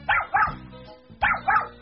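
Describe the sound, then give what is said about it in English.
A small dog barks in two quick pairs, four sharp, bright yips with short pauses between the pairs and no voices. “Little dog, let him go, please.”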